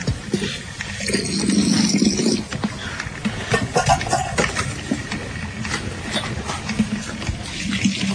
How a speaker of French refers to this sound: Elle remet de l'eau dans la cafetière qui est sur le fourneau.